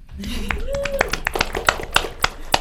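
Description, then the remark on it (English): Scattered applause breaks out during a speech about Minnesota's clean technology leadership, with sharp, irregular hand claps that grow more frequent and louder toward the end, over a low murmur of voices. “This, ladies and gentlemen, deserves a round of applause.”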